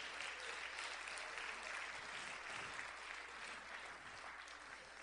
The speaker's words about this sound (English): Oh, somebody ought to clap their hands to the Lord.